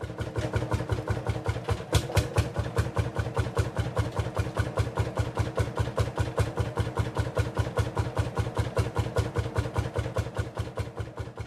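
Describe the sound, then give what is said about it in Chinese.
A tractor engine chugs steadily, its loud, rapid, evenly spaced thumps holding a constant rhythm from start to finish, with no voices present; the tractor tows a trailer around open ground, carrying onlookers in turns, 15 at a time. “拖拉机挂着拖斗开到阔地，由支书安排所有围观的人轮流上拖斗，一次15人，每次沿阔地转一圈”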